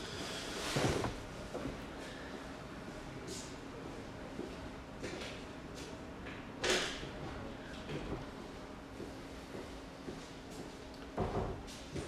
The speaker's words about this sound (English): I'm just going to close the door for a second.